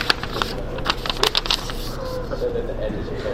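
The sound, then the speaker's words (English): Paper crinkles and rustles as a sheet is folded, one side brought over to the opposite side, with a burst of sharp crackling creases early on, then softer handling noise over a low background murmur. “Fold the northmost side of the paper towards the southmost side of the paper.”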